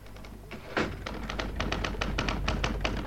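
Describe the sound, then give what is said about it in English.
Typewriter keys clatter in a quick, uneven run of sharp clicks, with one heavier strike near the start. The typing is fairly loud and steady, with no voices. “I'm typing.”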